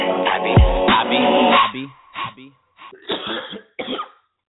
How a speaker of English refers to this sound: You hear me coughing over here.